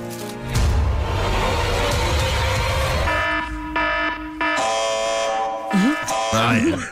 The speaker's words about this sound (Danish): Jeg synes virkelig, at den er angstprovokerende. Altså, jeg får simpelthen så meget stress af at høre den. Prøv lige at høre alle de alarmlyder.